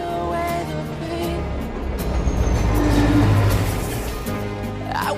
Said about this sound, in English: The train with Chloe and Delgado aboard thunders through a desert.